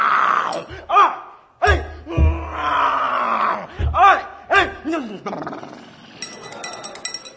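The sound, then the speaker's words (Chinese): A man's voice imitates the tiger's roar in the tale of Wu Song killing the tiger, as Wu Song punches it, with a series of loud, wavering howls and growls in uneven bursts, punctuated by sharp thumps, and faint metallic clinking toward the end. “这只虎嗷嗷乱叫，毫不渗人。”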